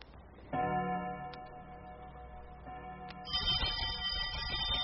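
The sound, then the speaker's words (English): A doorbell rings loudly and steadily, a sustained tone held for a few seconds before switching to a brighter, buzzier ring that continues to the end. No one speaks. “I told Jim he needn't ring it again, Penny.”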